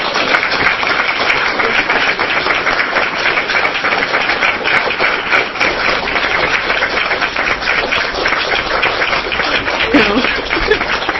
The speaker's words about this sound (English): So I think this is unprecedented. So we're going to have a round of applause for her.